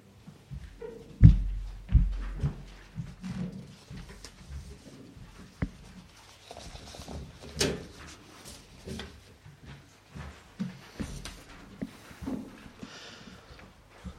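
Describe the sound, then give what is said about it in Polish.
Sheets of paper being passed from hand to hand, each person taking one sheet and passing the rest on, with scattered rustles, crinkles and a few soft thumps spread irregularly. No one speaks. “Chciałbym też, żeby każdy z was wziął teraz jedną kartkę. My ją puścimy, ale chciałem, żeby każdy z was wziął jedną kartkę.”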